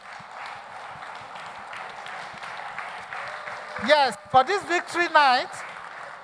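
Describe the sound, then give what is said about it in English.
A crowd claps steadily in a dense, continuous patter of applause at a victory night event, and near the end a loud voice calls out over the clapping. “We are all clapping, we are smiling.”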